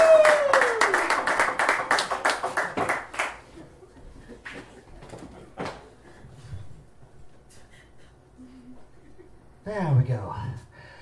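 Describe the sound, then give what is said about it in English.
An audience bursts into loud applause and clapping for about three seconds as a scientist is introduced, then the clapping quickly thins out and fades, leaving scattered quieter sounds and a brief voice near the end. “Give it up for the craziest of the crazy,”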